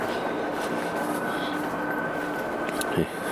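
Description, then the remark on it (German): A steady, continuous roar of an airplane passing overhead, with a faint whining tone held throughout and a brief soft knock near the end, under partly blue sky with broken clouds and a 20–22 km/h wind from the southwest. “Und da ist auch irgendwo ein Flugzeug.”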